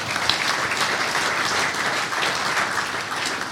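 Steady, dense applause from an audience, a continuous wash of many hands clapping at an even, fairly loud level for several seconds with no voices on top.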